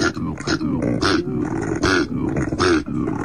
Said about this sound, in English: And that is why I am disturbed today, because I was tagged in a video on Facebook of a koala getting a little territorial and making koala noises. Oh, get out, really? This is what a koala actually sounds like.